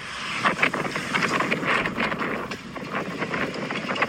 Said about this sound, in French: This was at 9:42 a.m. That's how much the wind increased. Là, c'est le vent qui a commencé à augmenter. Il était 9h42 là et on voit déjà tous les arbres qui sont à moitié pliés.